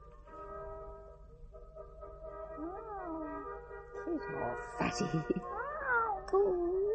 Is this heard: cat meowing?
yes